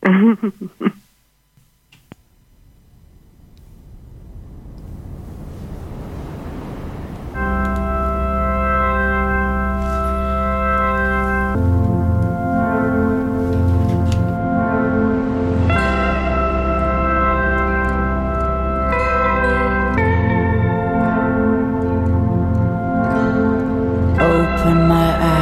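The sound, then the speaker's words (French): A song from the sound library of radio station Canal B starts up: after a brief rustle, a swelling wash builds for a few seconds, then loud sustained synth-like chords play, shifting to new chords every few seconds. “dans la banque sonore, justement, de Canal B. Je l'avais découvert. Eh bien, on l'écoute, ce morceau.”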